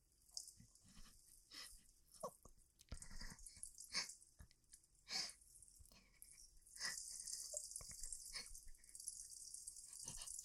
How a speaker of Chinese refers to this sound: 是狗